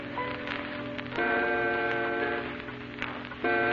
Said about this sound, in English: The clock ticks off the eerie hours.